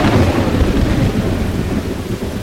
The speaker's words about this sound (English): Severe storm striking South Florida.